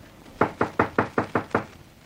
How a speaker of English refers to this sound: Take it quietly. Righto. Knock.